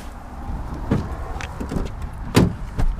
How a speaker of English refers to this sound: We get in the car and head out.